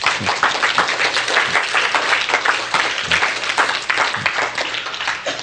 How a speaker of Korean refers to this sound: 박수. 그건 박수예요.